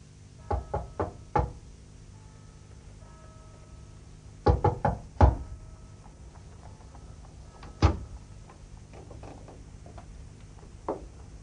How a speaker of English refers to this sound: Until the sun has set, when old Mr. Tulkinghorn comes silently up the stairs and stands on that same landing, knocking at the shadowed door.